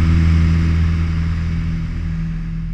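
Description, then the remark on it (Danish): A loud, steady propeller-engine drone from an old airplane taking off from a runway and climbing into the air, with a deep humming tone and strong low harmonics over a broad rushing noise, easing down only slightly in volume. “Det er startbanen, ja. Så, er vi i luften. Så flyver vi.”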